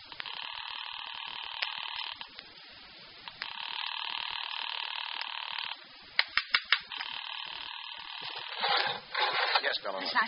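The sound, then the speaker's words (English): A telephone call to Weber's apartment, placed from a phone booth in a coffee shop, rings over and over in long, steady bursts with pauses between, heard thinly as if through a receiver, with a few sharp clicks and rustling near the end; nobody picks up. “Well, I don't get any answer from Weber's apartment either.”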